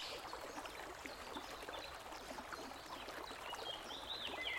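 River water flows and trickles steadily throughout, a continuous babbling wash with no voices, with a few faint high chirps near the end.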